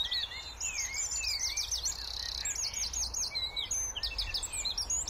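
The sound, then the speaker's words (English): A wren's rapid, high trilling song rings out in a busy dawn chorus early one May morning on the outskirts of a town, bright chirps tumbling over each other without pause, with a low, steady hum of traffic underneath. “What strikes me about the wren song is its precision.”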